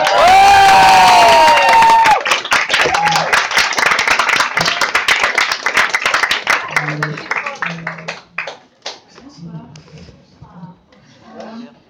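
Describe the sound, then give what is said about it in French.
A loud burst of audience applause with a few whoops and cheers in a hall at a goguette evening as a performer is introduced, dense clapping that thins out into scattered claps while voices begin to speak over the fading end. “Veuillez applaudir, mesdames et messieurs,”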